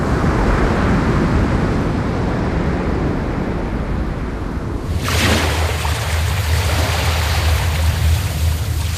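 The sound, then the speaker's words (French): Steady rush of open-sea waves with a low boat engine hum; midway the sound shifts to a bright hissing wash of water and a deep droning motor underneath, with no talking. “Eh oui, on prend large avec vous, on l'entend bien.”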